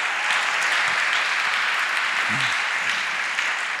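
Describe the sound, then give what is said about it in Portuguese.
A crowd claps steadily for Jesus in a dense, sustained wash of applause, loud and continuous for several seconds with no voices standing out. “Uma salva de palmas a Jesus.”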